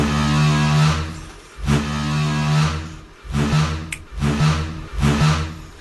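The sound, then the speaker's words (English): A toilet door creaks in deep, groaning pulses, repeating in a slow, menacing rhythm that sounds like the Jaws theme. The creaks are loud and sustained, with no voices. “There's also a toilet door with a special talent.”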